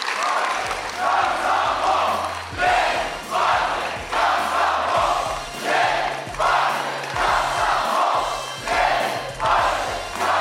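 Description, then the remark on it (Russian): A large crowd chants the slogan "Lenin, Party, Komsomol" in loud, rhythmic unison, each shouted phrase rising and falling about once a second, with low thumps marking the beat throughout. “А почему вы кричите «Ленин, партия, комсомол»”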